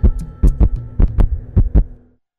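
sound effect, heartbeat sound effect

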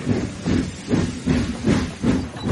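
vehicle, steam train

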